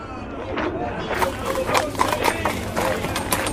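donkey hooves clip-clopping

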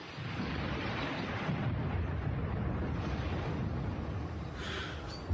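rain and thunder

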